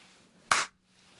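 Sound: hand clap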